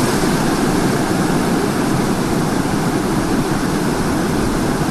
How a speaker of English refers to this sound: All right, it's pouring now. I've got zero visibility in this hole.